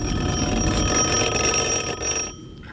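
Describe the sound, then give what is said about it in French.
A telephone rings in one continuous, brassy electric jangle with steady high overtones over a rough low buzz, then cuts off abruptly just before the end. No one speaks. It is the telephone that caver Michel Siffre picks up to inform the base camp. “Et bien sûr, pour chaque étape importante, sommeil ou pas, Siffre décroche le téléphone et informe le camp de base.”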